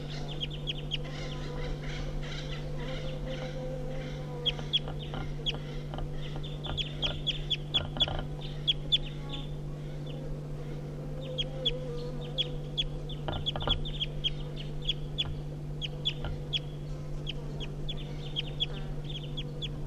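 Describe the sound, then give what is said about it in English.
Wild birds give flight calls at 9 o'clock: many short, high-pitched chirps repeat irregularly and fairly quietly throughout, over a steady low mechanical hum. No one speaks. “So recording the wild birds giving flight calls now.”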